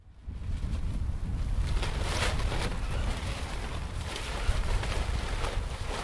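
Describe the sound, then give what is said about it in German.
Strong wind buffets the microphone with a steady low roar, while colorful banners with Spanish-language inscriptions flutter and snap in irregular bursts on a field amid industrial wasteland in Kassel. Nobody speaks. “Bunte Spruchbänder flattern im Wind.”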